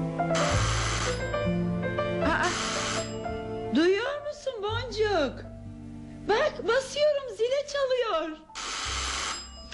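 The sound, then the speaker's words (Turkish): A doorbell rings in three loud, shrill, buzzing bursts of about a second each, with people talking in the gap between the second and third rings. “Çalmayınca ben de zil bozuldu sanmıştım.”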